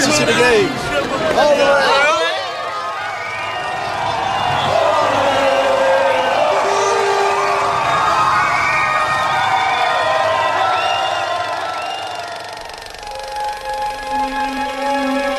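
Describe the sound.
A large crowd of Portuguese people cheers and shouts celebrating a victory, a dense, loud roar of many voices with rising whoops at the start, sustained throughout.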